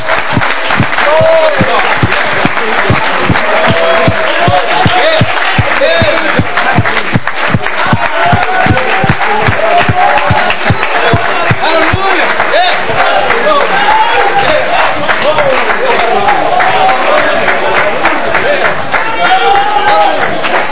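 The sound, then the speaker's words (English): An audience at an evening church service claps hands steadily in praise to the Lord, a dense, sustained burst of applause with scattered cheers and shouting voices mixed throughout, loud and continuous for the whole stretch. “Tonight, if you could, I just feel like giving the Lord a hand clap of praise tonight.”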